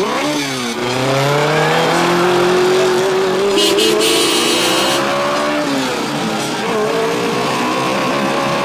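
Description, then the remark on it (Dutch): An open car's engine hums steadily and shifts pitch as it drives along on a dry day, touring Park Valkenberg in Breda, Netherlands, after church, over loud, continuous background noise. “Na de kerk maakt het paar een rijtour door Park Valkenberg. Het was droog, het kon met een open auto.”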